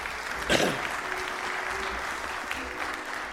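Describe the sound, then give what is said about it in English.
An audience applauds a bell choir, with steady, dense clapping that swells sharply near the start. It then holds at an even level for a few seconds with faint crowd murmur underneath. “Let's hear it for the bell choir.”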